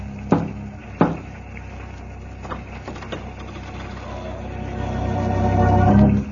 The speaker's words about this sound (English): But I was standing on the porch, and I did lift the heavy brass knocker. And I heard the thud echoing back as it struck the oak panel.